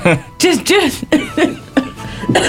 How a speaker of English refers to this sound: She's off. She's off with the cough.